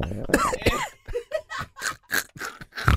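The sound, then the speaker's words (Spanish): A run of short, bursty coughs, roughly eight or nine in quick succession, fairly loud, with a few laugh-like breathy sounds mixed in. “Voy a toser.”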